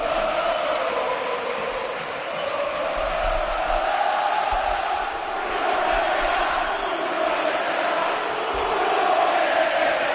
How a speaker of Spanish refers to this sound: Nuno, vete ya. Ha cantado la grada y ha cantado bastante gente este grito.